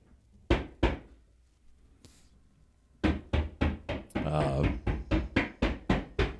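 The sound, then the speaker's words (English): Heavy, dull thumps of shingle bundles being dropped on the roof right above: two separate hits, a pause, then a rapid steady run of about ten loud thuds, with a brief voice heard partway through. “That's like the bundles of the shingles.”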